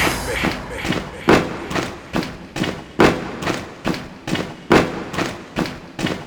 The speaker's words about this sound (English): Are you deaf? I said stomp with me.